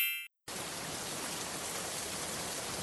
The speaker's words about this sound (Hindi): इस बार भी मानसून ने धोखा दे दिया। पहले तो बिल्कुल बारिश नहीं हुई और अब इतनी भारी बारिश हो रही है कि फसलें बर्बाद हो गईं।